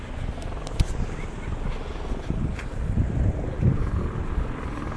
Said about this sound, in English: See if I can find this helicopter.